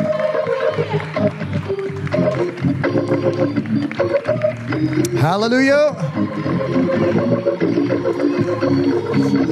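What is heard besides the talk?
audience clapping hands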